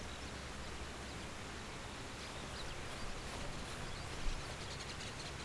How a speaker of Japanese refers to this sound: これが滝。あと川。そしてこれが水。 あ、冷たい。